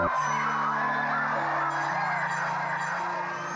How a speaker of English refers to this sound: There are common features to the ritual. The nerve-stealing countdown. The shrieking children and the pained whooping of the men as they plunge into the freeze.